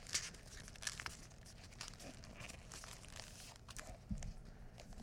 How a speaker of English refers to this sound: attempting to use paper more like aluminum foil. Sort of crumpled up around my book.